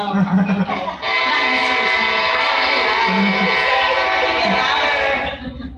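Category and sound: vehicle, train passing by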